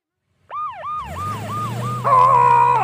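fire truck siren

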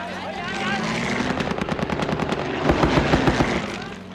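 machine gun fire

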